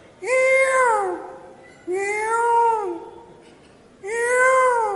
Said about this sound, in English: So, in the morning, all the birds began to make their sounds, and the peacocks began to cry.